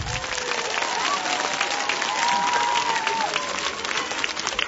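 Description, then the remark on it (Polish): Steady, dense applause fills the whole stretch as a large audience at the 11th national pilgrimage of children's backyard rosary circles to the Mother of God, Queen of Poland, greets itself, with faint cheering and a few voices rising through the clapping. “A zatem siebie również przywitajcie gorącymi oklaskami.”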